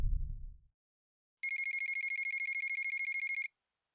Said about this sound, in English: I wake up again to my phone ringing, and once again I let it go to voicemail.